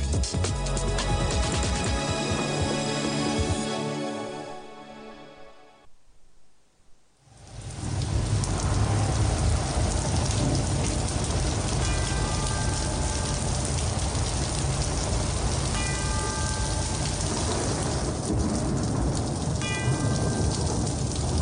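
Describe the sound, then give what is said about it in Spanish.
Music fades out, then steady, dense rainfall fills the scene, with deep rumbles of thunder rolling underneath and faint ringing tones drifting in now and then; the rain is likened to rain falling in Birmingham more than 50 years ago. “Esa lluvia la reconozco. No es el agua de oro.”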